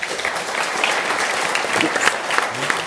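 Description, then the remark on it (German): Steady audience applause fills the whole stretch, a dense patter of many hands clapping at a fairly loud, even level without any voices. The warm applause is given as thanks to the speakers after a presentation. “Ihr kriegt jetzt einen warmen Applaus.”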